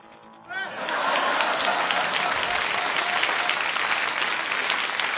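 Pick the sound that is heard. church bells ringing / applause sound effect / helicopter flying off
applause sound effect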